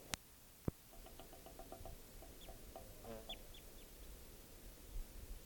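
A bird gives a quick series of soft, repeated clucking notes, followed by a few higher chirps, over a low hiss. Two sharp clicks come just before the calling starts.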